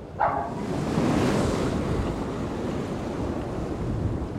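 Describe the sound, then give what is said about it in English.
A steady, loud roar of ocean waves mixed with wind rushing across the microphone, continuous, with no voices, heard about a block from the ocean in Cuba. “You're like barely a block from the ocean.”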